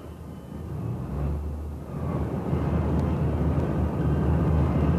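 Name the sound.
airplane in flight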